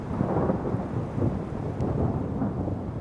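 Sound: thunder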